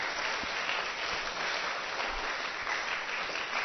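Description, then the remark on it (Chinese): A group of children in a class claps together as self-encouragement, in steady, dense applause that holds at an even level for the whole few seconds, a bright crackling wash with no voices standing out. “来，给自己掌声鼓励一下。”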